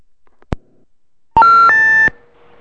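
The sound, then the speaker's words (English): A short click followed by a quick run of rising electronic telephone tones signalling an incoming call, loud, stepping up in pitch before cutting off abruptly. “Hang on. We got a caller, everybody.”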